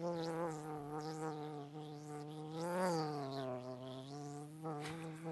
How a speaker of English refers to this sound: You can talk over the bee buzzing. I know. I was trying to think of something witty to say about this story with that bee buzzing. Like you said buzz off with those sound effects, dude.